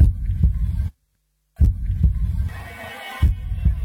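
A deep, low heartbeat thumps steadily over a dark rumbling hum, briefly cutting to silence before the pulsing resumes, with a hissy swell rising in the background.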